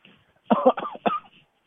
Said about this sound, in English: All the dust, the spider webs and cobwebs. We even maybe start coughing.